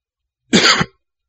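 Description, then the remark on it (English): A single sharp, loud cough lasting under half a second with a rough, throaty edge, followed by silence. No one speaks. “I'd turn off just for a minute and then cough into the mic.”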